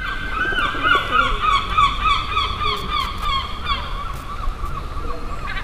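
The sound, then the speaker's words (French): A crowd of gulls calls over and over, harsh overlapping cries at steady volume, with a low rumble of background noise underneath and no talking. “Moi je les aime bien les goélands.”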